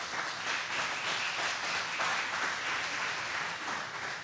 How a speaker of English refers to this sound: Go ahead, give the Lord a hand clap.